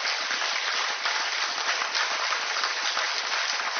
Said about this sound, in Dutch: Mag ik een geweldig applaus voor Frans Biemans.